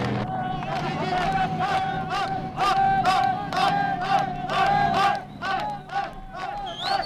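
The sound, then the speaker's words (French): A large crowd at the Jaffa Gate in Jerusalem cheers and shouts continuously, applauding Israeli tanks as they pass, with loud overlapping voices, rhythmic bursts of clapping and chanting, and a steady rumble of excited noise. “Vous entendez à la porte de Jaffa les applaudissements qui saluent le passage des tanks israéliens qui descendent sur la ville jordanienne maintenant encore.”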